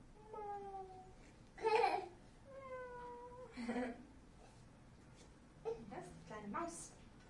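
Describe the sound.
Several drawn-out, falling meows from a small cat, moderately loud, spaced out over a few seconds, with short noisy bursts in between and faint voices in the background.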